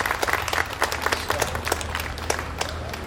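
A crowd of people applauding, with dense, steady clapping of many hands throughout, sharp individual claps standing out against the continuous wash of applause, loud.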